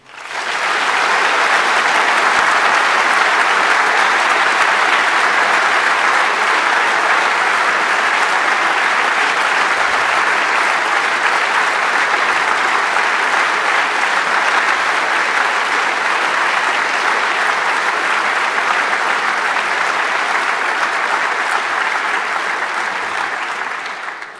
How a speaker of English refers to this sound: So we are very proud that we can do events like this in this dimension just based on volunteer work. And so very, very big applause for our angels.